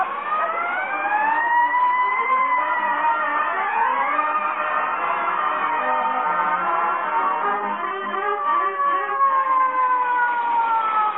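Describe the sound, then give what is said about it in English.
A fire truck siren wails continuously and loudly, its rising and falling tones layered over one another and sweeping slowly for the whole stretch, with no voices. “Boy, when I roll past the Elks Club with a siren going 70 and me going 30, those guys see what I'm here.”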